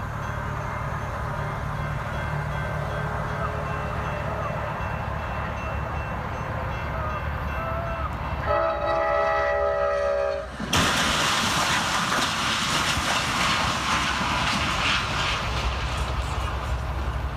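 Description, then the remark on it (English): A train rumbles steadily and sounds its horn in a sustained blast, then a sudden loud crash erupts into prolonged harsh grinding and clattering as it slams into a car-carrying vehicle. “And you can look this up and you want to watch it, but this is the actual sound of a train hitting a vehicle with cars on it, and you'll see the cars fly off like Tinker Toys, but just listen to this sound.”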